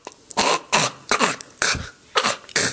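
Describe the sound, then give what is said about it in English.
A voice imitates harsh throat hawking, as when dislodging popcorn or cat hair caught in the back of the throat: six rough, raspy hacking bursts in a rapid, uneven series, each loud and noisy, with short gaps between them and no talking. “Maybe, just for a flourish, I'd do that hawking and spitting thing that you do when you have popcorn or cat hair caught in the back of your throat.”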